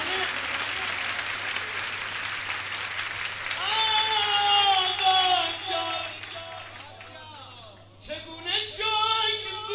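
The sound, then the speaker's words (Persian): A crowd at a gathering claps loudly and steadily for several seconds late at night, then a voice begins singing or calling out while the applause thins into a softer background patter. “این مسیح آخر شبه باید مضاعف باشه تو دست زدنه.”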